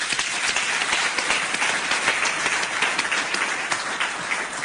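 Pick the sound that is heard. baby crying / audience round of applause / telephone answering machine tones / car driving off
audience round of applause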